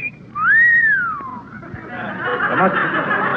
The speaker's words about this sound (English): Oh, boy. Just listen to the wind whistle through that old haunted house.